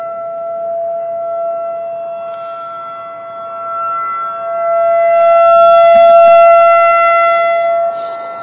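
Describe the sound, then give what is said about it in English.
A civil defense siren sounds its weekly test, every Tuesday morning at 10 o'clock, heard during a hearing. It drones a steady, sustained tone throughout, its volume swelling around the middle as if rotating toward the listener, then easing slightly. No one speaks. “But we know we're all safe because of the sirens.”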